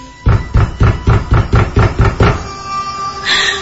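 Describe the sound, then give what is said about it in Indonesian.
About nine loud, heavy knocks pound on a bedroom door in a quick, steady rhythm, then stop abruptly, leaving only a faint lingering hum. “Tapi ketukan suara pintu digedor itu tidak berhenti.”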